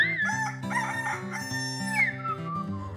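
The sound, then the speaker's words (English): A rooster crows loudly among the farm animals in the barn stalls at a fair, its call rising and falling, over steady, cheerful background music that continues throughout. “Birdie is making friends with a rooster.”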